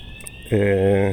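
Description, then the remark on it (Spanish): A steady high electronic tone hums in the background, then a loud, flat buzzing alarm kicks in halfway through and holds steady, close by. “Así que, bueno, parece que está sonando por aquí una alarma.”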